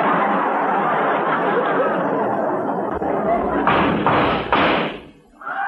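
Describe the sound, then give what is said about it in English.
Three loud gunshots crack out in quick, evenly spaced succession outside an office, over a dense, steady background of noise, which then drops away abruptly. “Hey, those shots came from outside the office.”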